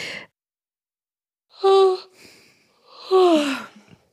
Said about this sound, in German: So. Noch ein letzter Gähner, weil es so schön war.